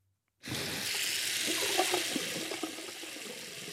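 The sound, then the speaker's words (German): A tap gushes steadily after a brief silence, a broad continuous hiss of running water with faint splashing gurgles underneath, fairly loud, with no voices. “Ob der Wasserhahn nach Gebrauch wieder geschlossen wird oder nicht, das macht einen großen Unterschied.”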